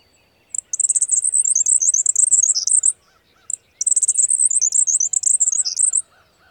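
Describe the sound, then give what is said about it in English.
A male grasshopper sparrow delivers two rapid, high-pitched outbursts of song, each opened by a brief single note and then a tumbling rush of thin, intricate notes, heard clearly on their own. “Now listen to the grasshopper sparrow's outburst slowed down, so you can hear just how intricate it really is.”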